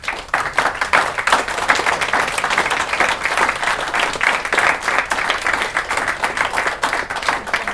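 A large standing audience applauds a speaker, an author and business owner, after her introduction: a steady, dense wash of many hands clapping at once, sustained and fairly loud for several seconds without any voices.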